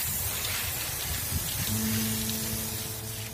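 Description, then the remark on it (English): A steady hiss of a spray paint can runs continuously for a few seconds as a street artist shapes cloudy designs with a side spray technique, with a low mechanical hum rising underneath partway through. “Juice shapes out cloudy designs using a special spraying technique”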